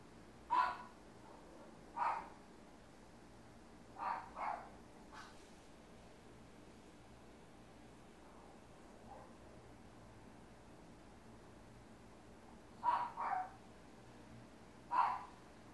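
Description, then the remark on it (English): Puppies bark in short, sharp yaps, singly and in quick pairs, scattered across the stretch with a long quiet gap in the middle, against faint background hiss; they are barking at thunder. “Oh, the puppies don't like the thunder.”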